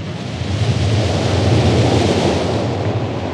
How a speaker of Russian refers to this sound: Ветры буйные подули, море взволновалось, бочку выкинуло на сухой берег, на желтый песок.